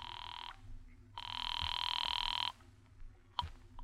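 A telephone rings in two buzzing bursts, a short one and then a longer one, with a steady high warbling tone and a soft click afterward. No one speaks.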